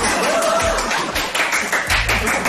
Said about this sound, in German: Und jetzt brandet hier wieder Applaus auf.